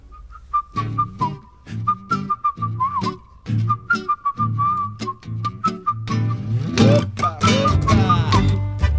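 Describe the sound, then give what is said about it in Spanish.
A whistled tango melody rides over a rhythmic instrumental backing with sharp, evenly spaced accents and a steady bass; the accompaniment swells fuller and louder toward the end. It is a short instrumental whistled version used as the opening theme of the show Malayunta. “Era identificable cuando empezaba Malayunta porque arrancaba con este tanguito silbado.”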